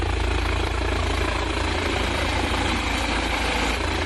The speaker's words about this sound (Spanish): Esto que escuchas es un helicóptero aproximándose al refugio Laguna Grande de Gredos, en pleno rescate de una persona que había sufrido un fuerte impacto de hielo en la cabeza.